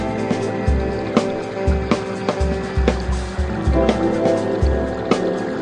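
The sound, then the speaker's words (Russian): Steady river water flows and splashes, with a continuous rushing wash punctuated by irregular small splashes and knocks, plus a low rumbling hum underneath. “А река течет.”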